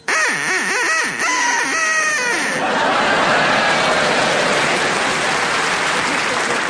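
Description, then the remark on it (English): A man imitates a duck, letting out a quick run of nasal, warbling quacks, before an audience breaks into loud, sustained applause and laughter that fills the rest. “can you make your duck quack now, please?”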